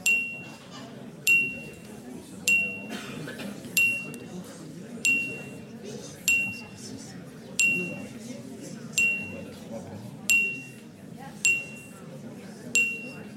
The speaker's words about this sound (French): Quatre personnes sont à table. Quand l'apéritif est servi, tout le monde trinque. Combien y aura-t-il donc de cling, sachant que chaque personne trinque évidemment une fois avec chaque autre.